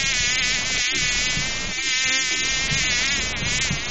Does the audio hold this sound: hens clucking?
no